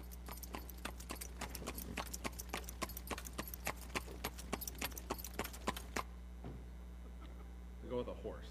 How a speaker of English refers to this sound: A horse and buggy. Looks like the buggy's about ready to fall over there.